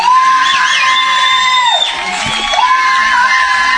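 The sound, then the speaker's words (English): A crowd at a baseball game cheers and whoops loudly and continuously after a three-run home run, with high-pitched shouts and rising yells over a dense wall of excited voices, sustained. “My wife's going nuts.”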